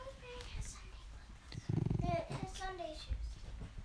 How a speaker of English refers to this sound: We have all the children are running and shouting.